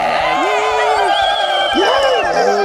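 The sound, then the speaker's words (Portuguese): A virtual-audience crowd cheering sound effect plays steadily, a dense wash of many voices with a few higher whoops rising and falling over the din. It stays loud throughout. “Nós também estamos com a nossa plateia virtual aqui.”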